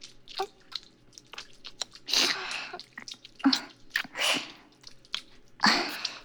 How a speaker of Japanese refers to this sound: どう？耳舐められると感じるよね。